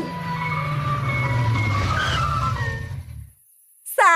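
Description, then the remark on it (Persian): A vehicle engine rumbles steadily while a thin, tinkling melody plays over it, an ice cream truck with its jingle pulling up, then the engine cuts off abruptly. “منم همینطور، صدا تو سرمو نیست، اونجا رو.”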